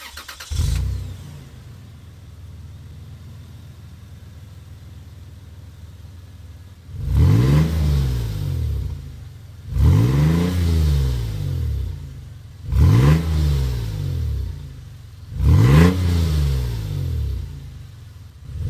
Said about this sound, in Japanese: ランドクルーザープラド TAVZJ120W、 マフラーは 4WD バーテックス GDA89。